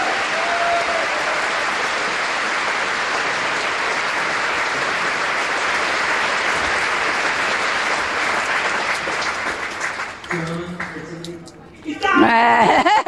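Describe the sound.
An audience breaks into sustained, loud applause for God lasting about ten seconds, dense and steady, before it fades and a voice begins speaking over the last scattered claps.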